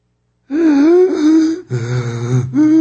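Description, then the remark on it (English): A voice imitates the labored, wheezing breathing of a man dying of lung cancer in a nursing home: three strained, rasping gasps, loud, each drawn-out breath harsh and rattling with no words spoken. “He was breathing like that.”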